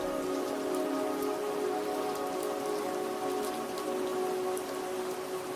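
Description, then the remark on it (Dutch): Steady rain pattering softly against the window glass of a small house in the mountains, a continuous gentle tapping with faint drips standing out now and then, even in volume, with no voices. “Je bent hier, in dit huisje in de bergen, omringd door de rustgevende regen.”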